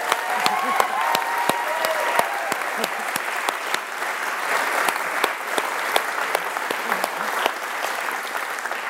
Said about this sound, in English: So I think she deserves another round of applause.